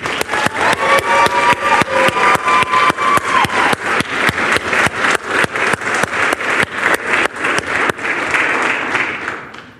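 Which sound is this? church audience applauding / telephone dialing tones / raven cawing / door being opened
church audience applauding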